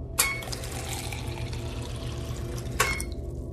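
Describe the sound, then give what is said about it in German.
Water pours steadily into a container for a few seconds as a 0.2-litre afternoon water ration is dispensed on board, bracketed by a sharp click at the start and another near the end, moderately loud with a low mechanical hum underneath. “Cora. Wasser. Wasserration Nachmittag, Commander Brandes, 0,2 Liter.”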